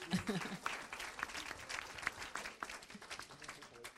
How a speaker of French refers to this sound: Merci beaucoup, messieurs, pour vos interventions. Je vais prendre quelques... Oui, on peut les applaudir, bien sûr.